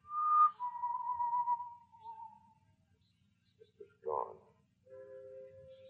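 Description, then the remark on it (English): Someone whistles somewhere inside a building: a few drawn-out, gently falling notes, a pause, a short sharp chirp, then another steady held note, with a faint low rumble underneath. “The whistling was somewhere in the building.”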